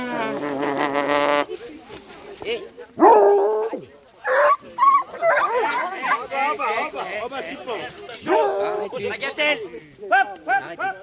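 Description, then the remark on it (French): Several hunting hounds yelp and whine in a busy, overlapping chorus of sharp high cries while sniffing and licking a deer carcass, after a steady held tone at the start. “Il y a les chiens qui sont en train de le renifler, le lécher.”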